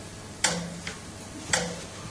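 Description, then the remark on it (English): A large belfry clock ticks slowly and steadily, each sharp, resonant tick followed by a softer tock, repeating about once a second against a quiet background hum with no voices. “Yes, sir, it was placed right beneath the belfry clock, where every tick could be heard.”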